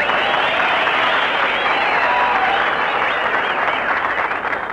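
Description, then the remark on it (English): A large audience applauds loudly and steadily, a dense wash of clapping hands that fills the whole stretch without pause and eases only slightly at the very end. “Oh, say, you're really popular here, Mary. You got a nice hand. That ain't all they're applauding”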